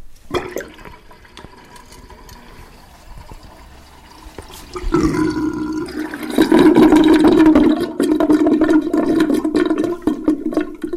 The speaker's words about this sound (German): Das ist der Bodensee und der Bodensee ist auch ein Badesee. Und dieser Bodensee-Badwanne ziehen wir jetzt einmal den Stöpsel raus.